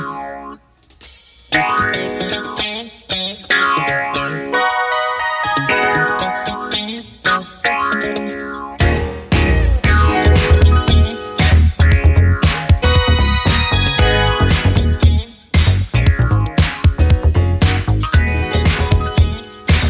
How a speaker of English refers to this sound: This is … from 1982. Oh, good tune here.